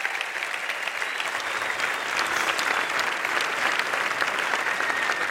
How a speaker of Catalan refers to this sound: doncs agrair-vos una vegada més per haver-me donat aquesta oportunitat, i un aplaudiment per ells, si us plau, que han fet molt bona feina.